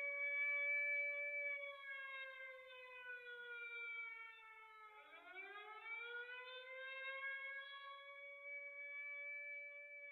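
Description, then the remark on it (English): A loud prison escape alarm siren at Alcatraz wails continuously, its rich droning tone sagging lower before sweeping back up midway, then holding steady. No voices, just the siren filling the whole stretch. “The escape alarm was sounded for the second time in Alcatraz history, and an extensive search was launched.”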